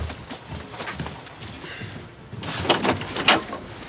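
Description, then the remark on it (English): A few sharp knocks on a door land in the second half, loud and irregularly spaced, following a stretch of quieter background noise. “then there's a knock at the door.”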